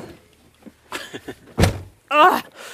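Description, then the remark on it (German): A stuck door is forced open: a few soft knocks, then a loud thunk as it gives way, followed by a short creaking or vocal strain. “Meine Tür geht wieder nicht auf”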